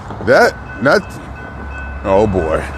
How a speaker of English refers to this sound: Oh, here comes the train, actually. There's one actually coming. Last time I did this, one didn't come. But now this one's the one coming this time.